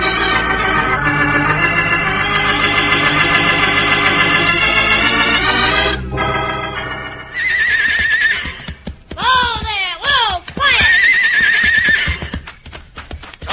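Horses harnessed to a loaded wagon whinny loudly in long, wavering, high-pitched calls, then hooves clip-clop in a quick, irregular rhythm as another shrill, falling neigh cuts in. No one speaks.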